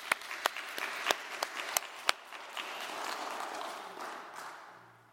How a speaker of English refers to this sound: Let's give them a round of applause for at least trying.